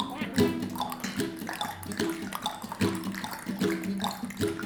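Raindrops splash and burble steadily, a bright watery patter rising and falling in rhythmic pulses over a humming tonal backing that sounds like music.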